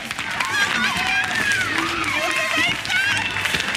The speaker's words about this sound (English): Mixed reactions from the crowd there. Obviously, some people excited, some people not so excited.